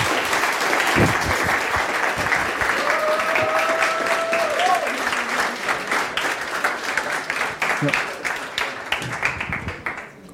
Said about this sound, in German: Ein Applaus